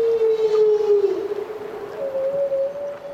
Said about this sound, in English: Humpback whales are feeding and calling.